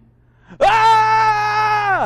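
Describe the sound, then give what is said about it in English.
A single loud, sustained yell held for about a second and a half, a voice imitating a war cry. It rises sharply, stays steady and strong, then drops off at the end. “He arrived at the camp just as the army was moving into battle formation, shouting the war cry.”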